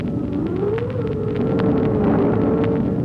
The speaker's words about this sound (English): It is a dark and stormy night. Outside, the wind is howling and whistling.